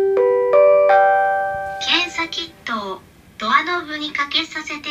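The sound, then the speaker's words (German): A telephone rings in a hotel room in Japan with a short run of clear electronic tones for about two seconds, then voices start talking and carry on to the end. “Das Telefon klingelt.”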